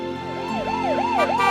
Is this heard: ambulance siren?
yes